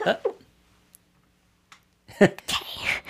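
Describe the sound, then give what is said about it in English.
After a short pause, someone who has stepped away from the microphone sneezes, a sharp intake followed by a breathy burst. A brief vocal sound comes at the very start. “Bless you.”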